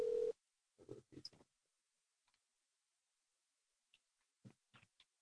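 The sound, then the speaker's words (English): A phone call goes unanswered: a brief steady ringing tone at the start, then a few soft clicks and scattered ticks over mostly quiet line noise, with no voice picking up. “Every fucking time I try to talk to someone, they don't answer their phone.”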